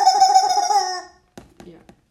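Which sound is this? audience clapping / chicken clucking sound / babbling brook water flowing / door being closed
chicken clucking sound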